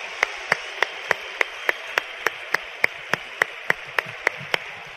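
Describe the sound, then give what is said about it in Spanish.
An audience applauds in thanks for the person who invited them: around seventeen sharp, crisp claps in a steady, even rhythm at a brisk pace over a soft, noisy wash, with no one talking. “Y por ese solo hecho, ¿por qué no le damos un fuerte aplauso a la persona que te invitó?”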